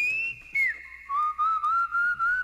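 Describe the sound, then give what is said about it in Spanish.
Someone whistles a rock song melody, a clear sustained tone that glides between pitches in a few phrases, fairly loud with no talking over it. “Me encantaría silbar bien.”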